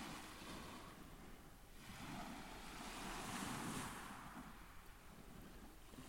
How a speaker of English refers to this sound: These waves were recorded on Deal Beach in area Dover, in front of a faint, shimmering, pale pink sunrise in the wintry haze. The first sunrise of the year, on the 1st of January, 2021.